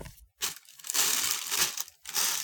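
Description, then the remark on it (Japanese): Crackling crinkles of a plastic bag that has just been urinated into, being crumpled and handled, with a short pause near the start and another near the end. No voices. “こちらのビニール袋におしっこをし終えました。”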